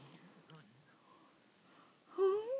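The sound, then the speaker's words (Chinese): A baby breathes with a soft, raspy wheeze, then lets out a louder rising whine-like wheezy breath near the end. Quiet and close, with no one speaking. “宝宝，你喘得好像小狼狗一样”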